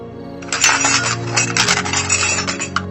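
A metal cooking utensil drops and clatters loudly as a woman collapses while cooking, a burst of clanging and jangling that rings on for a couple of seconds with bright, tinny overtones before settling.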